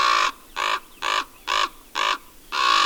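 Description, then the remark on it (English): Ravens harassing two young barred owlets fallen from an old sugar maple in East Haddam, Connecticut, call in a steady series of six loud, hoarse croaks, each harsh and rasping with a brief pause between, and no voices present. “The young birds had fallen out of an ancient sugar maple and were being harassed by ravens.”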